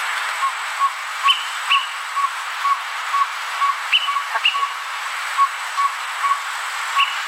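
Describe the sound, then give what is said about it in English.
A Greater Pewee recording played from birdsounds.net gives a steady series of short, clear pip notes at an even pace over soft background hiss, with a few higher, sharper chirps scattered among them. “And I happen to pull up the Greater Peewee, just so you know, and I this is what the Greater Peewee sounds like, so everyone can have an idea of what we're trying to talk about here.”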